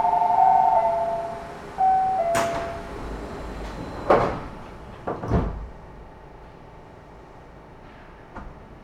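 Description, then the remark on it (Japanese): A train's doors slide shut with a few sharp mechanical thuds and clunks, preceded by a short tonal chime, over a steady low hum of the waiting carriage, as a train bound for Kadomashi departs from platform 2 in Japan. “まもなく2番ホームから門真市行きの電車が発車します。扉にご注意ください。”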